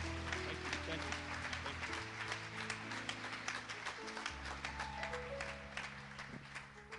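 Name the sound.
audience clapping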